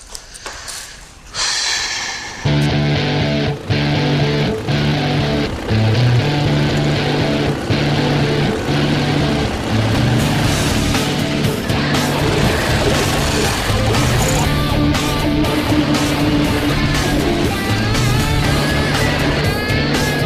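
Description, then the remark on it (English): An old-school chopper motorcycle engine fires up after a brief rough start, then runs loud and steady with a deep throbbing rumble and a few small shifts in revs. No one talks. “I gotta tell you, for the last week or so, I've been dying to take that old school chopper out for a ride.”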